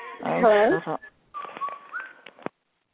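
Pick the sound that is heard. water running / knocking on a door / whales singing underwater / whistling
whistling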